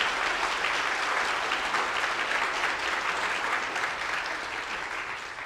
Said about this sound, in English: Can we hear some applause? Thank you.